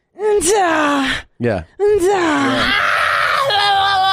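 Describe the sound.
A voice imitates a tennis coach's grunt while playing tennis: loud, strained, drawn-out groaning cries, a long one, a brief sharp burst, then another long wavering yell that rises and shifts in pitch.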